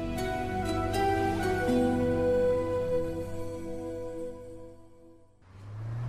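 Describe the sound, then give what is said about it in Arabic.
A car, nicknamed Tamasha, hums steadily with a droning, tonal whine as it drives toward Dubai, then briefly drops away before a rush of rougher road and engine noise takes over near the end. “الله اسميها السيارة طماشة وبالله طماشة”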